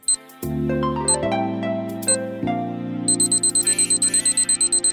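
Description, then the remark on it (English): An alarm clock sound effect: a few sharp high electronic beeps over low sustained synth chords, then a rapid, steady train of loud beeping pulses through the last two seconds. “The clock starts now.”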